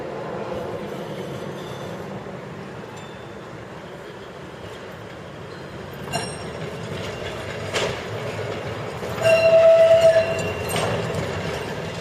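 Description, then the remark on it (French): A tram to Fontenay-les-Roses rolls steadily along rails with a low continuous rumble, punctuated by a few metallic clanks and a brief high squeal near the end. No one speaks. “Prenons le tramway jusqu'à Fontenay-les-Roses.”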